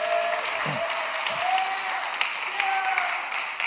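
An audience claps steadily, a dense, even wash of applause with a few cheers and whoops rising above it, sustained at a fairly loud level throughout.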